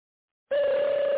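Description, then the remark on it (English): A phone starts ringing in a movie theater after a brief silence, a steady, loud electronic tone with a bright buzzing edge that holds unbroken to the end. “Dude, get your damn phone.”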